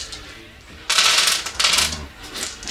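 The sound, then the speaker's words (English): Red dice rolled across a hard surface, coming up 2s: two bright, rattling bursts of clatter about half a second apart, then a shorter clack, moderately loud over a quiet background. “He's just rolling 2s.”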